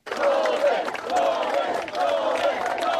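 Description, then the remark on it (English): A large crowd at an outdoor political rally in Middlesbrough during an election campaign, in drizzle with umbrellas and placards as the Labour leader gets off his bus, fills the air with continuous overlapping voices, cheering and calling out with scattered claps, a steady, fairly loud roar with no single speaker standing out. “Drizzle, brollies, placards, and the Labour leader getting off his bus.”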